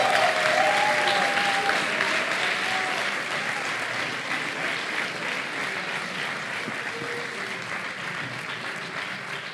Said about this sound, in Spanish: Y el podcast ganador en la categoría de Ciencia y Cultura es Noviembre nocturno. Un aplauso.